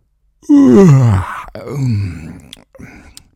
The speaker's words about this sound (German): Oben auf der letzten Treppenstufe angekommen, hörte sie ihren Papa laut gähnen. Das Gähnen kannte sie schon. Es dauerte lange, bis ihr Papa morgens wach wurde.